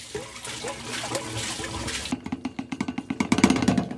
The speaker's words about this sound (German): Kassettenentleerung. Also pass auf, ich sag's dir, Kassette am Einlaufstutzen entleeren. Also das heißt, von unserer Kassette musst du das jetzt da reinschütten.